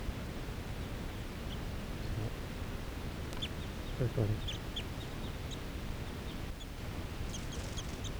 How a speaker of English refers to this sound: Oh, yeah, some crossbills sitting right here in the trees.